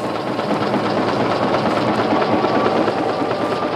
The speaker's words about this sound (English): This is only the first edition. In 2 hours at top speed, these presses can turn out more pages than the first New York Times could print in a full year, 100 years ago.